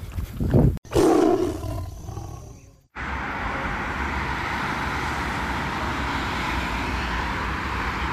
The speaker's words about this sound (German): Ach, was für Meeresrauschen für den Ruhrgebietsmensch. Die A40, eine der Gründe für Herzinfarkte in unserer Region. Heute aber mal ohne Stau und fließenden Verkehr.